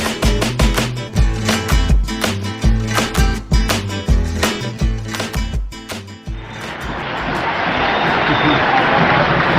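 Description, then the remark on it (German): A rhythmic music intro with punchy beats plays for about six seconds, then gives way to a steady, loud wash of applause welcoming the listeners that carries on to the end. “Mit einem Applaus werdet ihr empfangen.”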